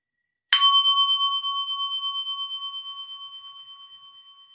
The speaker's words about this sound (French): Je vais inviter la cloche à nouveau. Et en invitant cette cloche, on peut prendre 3 respirations ensemble.